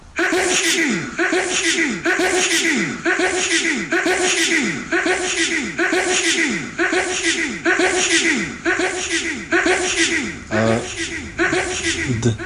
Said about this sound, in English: That is lots of sneezes.